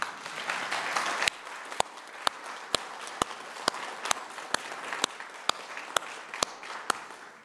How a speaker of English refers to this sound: Give him a clap.